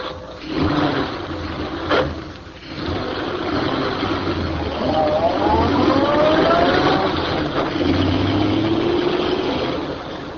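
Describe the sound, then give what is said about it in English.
A new car's engine turns over and catches at midnight, idles roughly after a brief knock, then revs up with a rising whine as the car pulls off and gathers speed after being pushed down the slope of a road by two men, staying loud. “The two men pushed the automobile down the slope of the road, jumping in when the car began to gather speed.”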